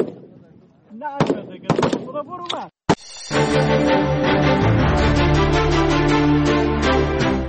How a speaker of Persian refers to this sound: با آن هم این زنان بی توجه به آینده ناروشن تلاش دارند تا گلوله هایشان به هدف بخورند و برای کشورشان تأمین امنیت کنند.